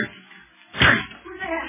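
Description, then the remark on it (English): A flimsy locked door is smashed open with one loud splintering crash that quickly dies away, set against a low murmur of background sound before and after. “Locked. The door's flimsy. I'll break it.”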